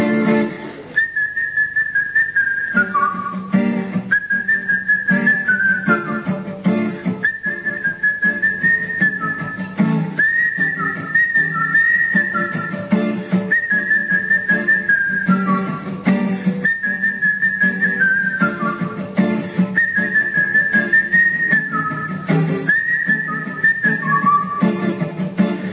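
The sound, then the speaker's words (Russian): Someone whistles a melodic tune standing in for an orchestral instrument part of a song, steady phrases with short pauses between them, over a low instrumental backing. The whistling is clear, carrying the lead line of the music. “Когда я свищу, это значит играет какой-то инструмент, сон, оркестровый.”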